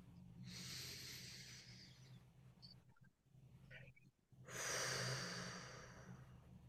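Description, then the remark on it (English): Two long, airy breaths: a deep inhale drawn in through the nose, a brief pause, then a fuller, louder exhale pushed out through the mouth, with a faint low hum underneath and no talking. “Some nice cleansing breaths here. In through the nose again. Out through the mouth. One more.”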